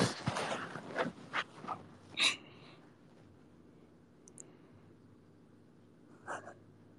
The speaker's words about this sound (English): I can literally hear the fucking keys.